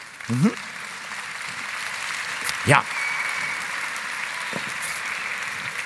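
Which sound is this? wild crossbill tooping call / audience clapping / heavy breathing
audience clapping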